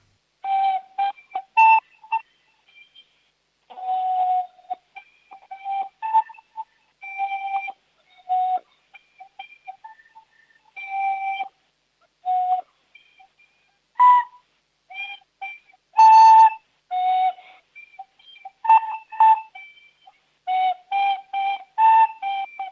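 A child plays a simple melody on a recorder, with breathy, slightly wavering tones in short phrases separated by pauses. The notes are fairly loud and alone, with no talking.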